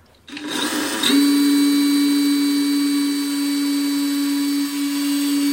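A power drill whirs up and bores a test hole, drilled in on an angle so no water comes in, holding a steady, loud mechanical whine with a buzzing low hum that runs unbroken for several seconds. No one speaks.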